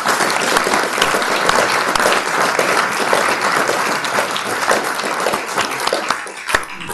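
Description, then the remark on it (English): An audience at a talk applauds steadily for several seconds, a dense, even wash of many hands clapping at once, with a few sharper individual claps standing out near the end. “But let's give a round of applause, so thank you very much.”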